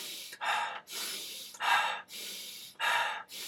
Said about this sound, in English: So it's not deep breathing. When it's time to compose yourself, or when you're in the game and you're trying to recover, you don't do deep breaths, because what happens if you do deep breaths?